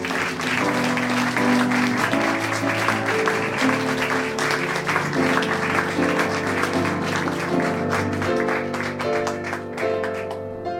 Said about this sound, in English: So, are you ready for your... are you ready for your next storyteller? Clap your hands, get excited